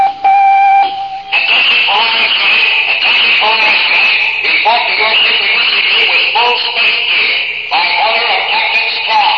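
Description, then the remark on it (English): A brief steady electronic buzz tone gives way to loud, crackly, tinny static from the Space Academy dormitory intercom speaker, with muffled radio-like voice sounds running through the hiss. “Suddenly, the dormitory intercom crackles into life.”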